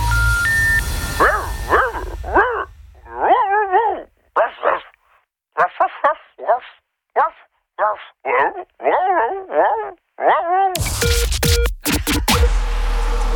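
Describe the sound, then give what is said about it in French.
A human voice imitates a dog barking in a message left on an answering machine, producing a long run of short, yappy woofs in quick, uneven bursts, fairly loud, with a rush of noise at the end. “Oui, bonjour, je suis navré, c'est moi qui viens de vous laisser un message. Je suis bilingue, en fait, je parle chien et humain, et je me suis un peu emmêlé les pinceaux.”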